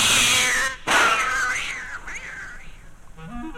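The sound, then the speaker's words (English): A startled black cat lets out a loud screech, breaks off briefly, then continues with a wavering, rising-and-falling yowl that gradually fades. “And scaring any black cat who might trot across my path.”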